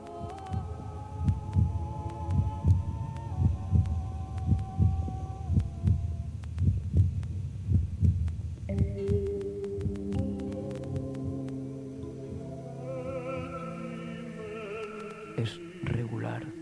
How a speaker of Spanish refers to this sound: Mira el lugar del corazón. Encuentra que el latido es diferente, más lejano.